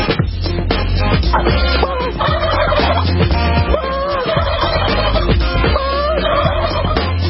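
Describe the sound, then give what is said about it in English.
A flock of turkeys gobbles loudly and repeatedly, their warbling calls overlapping in bursts over a low, steady rumble, continuous throughout. “Hey, you turkeys! Happy, happy Thanksgiving!”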